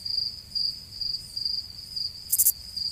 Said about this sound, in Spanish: ¿Y alguna vez se preguntaron por qué cantan los grillos? Bueno, pues resulta que lo hacen por coquetos.